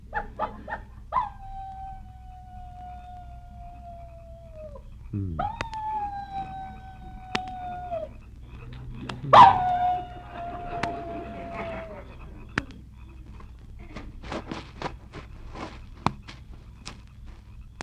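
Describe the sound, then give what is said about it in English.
A person imitates a coyote with three long, wavering howls, each rising sharply then holding a steady, slowly sinking pitch, followed by faint scattered clicks and shuffling. “How'd you like my imitation of a coyote?”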